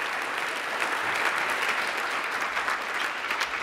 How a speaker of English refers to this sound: And thank you very much for the first round of authors. A big applause